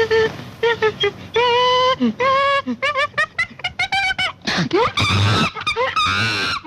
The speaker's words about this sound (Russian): Обезьяна.